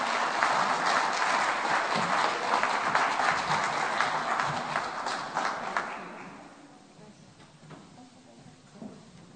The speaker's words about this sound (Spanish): Un fuerte aplauso.